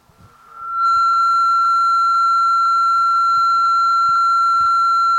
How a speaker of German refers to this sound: Dann das Geläut des Telefons, als er den Hörer aufnahm und wählte die Nummer.